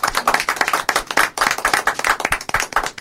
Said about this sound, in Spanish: Aplausos.